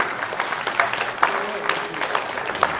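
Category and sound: crowd, audience applauding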